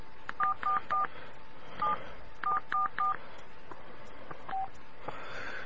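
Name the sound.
telephone keypad dialing tones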